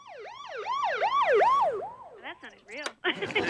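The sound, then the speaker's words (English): A voice imitates a police car siren, looping through quick rising and falling wails, then breaking into choppier yelps before a burst of noisy sound at the end. “For a police car.”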